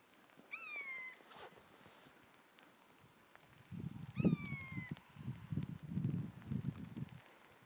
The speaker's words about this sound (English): That's it, going over the hill. And looking for wildlife. And that's the eagle.